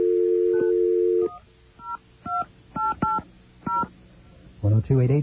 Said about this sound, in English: All right, let's call AT&T and find out what, say, a nighttime call to California will cost. Let's get ourselves a dial tone.